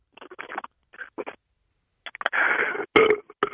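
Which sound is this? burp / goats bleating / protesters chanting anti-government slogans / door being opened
burp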